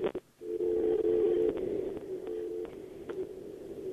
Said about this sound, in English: Oh, that's weird. They hung up on me. What was that dial tone thing? That was so weird.